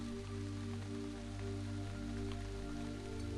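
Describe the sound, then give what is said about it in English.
Steady, even rain hisses continuously over a low, sustained droning hum, with no voices and no breaks for the whole stretch. “And as you sit in this field, feeling the rain wash over you, notice that this rain doesn't feel the way that rain normally feels to you.”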